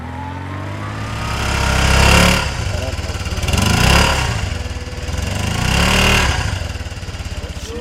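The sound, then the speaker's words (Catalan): A motorcycle engine drones loudly, swelling and fading in three broad surges as it revs and passes, with a steady low rumble underneath throughout. “Una moto, et sona, eh?”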